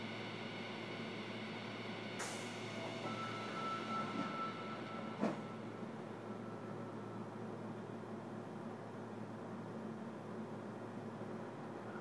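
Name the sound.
commuter train running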